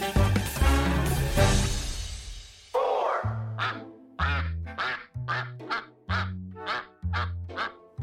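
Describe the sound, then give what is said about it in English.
A noisy chorus of around 500 Indian runner ducks, kept to eat snails at a vineyard in Stellenbosch, South Africa, quacking together, then a rapid series of loud quacks in a steady rhythm, about one per second. “The army of around 500 Indian runner ducks have a taste for snails, making them valuable employees if you want to keep your vines”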